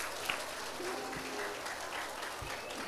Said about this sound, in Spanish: Ay, un fuerte aplauso para Valeria. Valeria, un fuerte aplauso para Valeria.